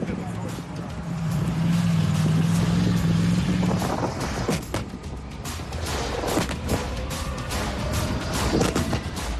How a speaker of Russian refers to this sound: сейчас отработали реактивные системы залпового огня, бьют под Авдеевский Коксахим, по самому комбинату, конечно, не бьют, потому что там очень много реактивов, но вот сейчас, после выполнения боевых задач, машины уходят с позиций.